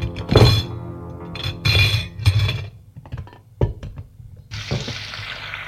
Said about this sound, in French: Et à faire la vaisselle.